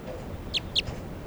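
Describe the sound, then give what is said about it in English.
A light-colored female crossbill, a wild bird, gives two quick, sharp, high-pitched call notes in close succession, with a fainter echo-like note after, over a steady low background hiss. No one speaks. “Left crossing bill. Definite female, real light color. Calling rapidly now.”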